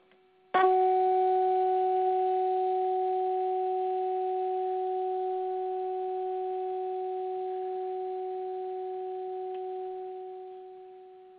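A steady mid-pitched sine tone, presented as the pineal frequency, starts abruptly and holds for about eleven seconds, with faint higher overtones, slowly fading before cutting off. No voices are heard.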